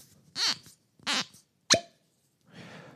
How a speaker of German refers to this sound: Und zwar habe ich jetzt hier den Kilhoman Scenic. Und ich mache mir jetzt mal die Flasche auf.